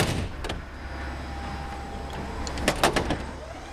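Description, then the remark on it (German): A large warehouse door at a company in Fulda, Germany, grinds open over a steady low mechanical hum, with a few sharp clanks and rattles near the end, moderately loud. “Und da sind wir, direkt vor der Tür zum Lager.”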